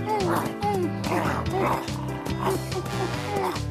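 A very large dog barks and yips in quick, playful bursts like an excited puppy, loud, repeating several times over steady background music.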